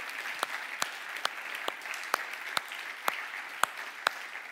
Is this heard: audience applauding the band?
yes